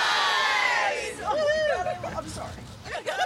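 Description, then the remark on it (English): About two dozen people cheer and shout together outside the Ulster County Government Building in Kingston as a Pride flag is raised for the first day of Pride Month, with loud high-pitched whoops and rising voices at first, then calls and chatter that swell and fade in bursts. “A crowd gathered just outside the Ulster County Government Building to mark the first day of Pride Month.”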